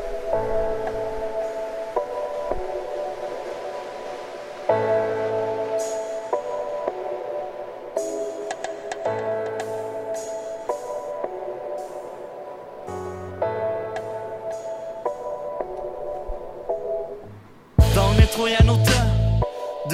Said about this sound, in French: Du bon hip-hop d'ici, le jeune. Monte le son.